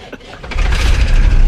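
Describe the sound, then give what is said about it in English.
A motor cranks briefly, then catches and settles into a steady, loud low rumble: a boat engine starting up and running. “Whoa, listen to that purr.”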